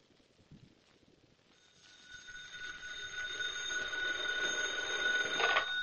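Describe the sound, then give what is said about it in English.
A telephone bell rings steadily and continuously after a brief quiet opening, its shrill tone swelling louder over a few seconds. No one speaks. “Now get to the phone and call the police.”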